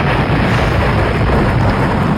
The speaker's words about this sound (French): c'est une fusée, ça vous l'avez trouvé